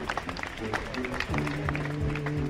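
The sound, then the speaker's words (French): A crowd applauds the inauguration of a plaque with steady, dense clapping that holds for a few seconds, with murmuring voices and a low hum running underneath. “Vous pouvez applaudir cette inauguration de plaque.”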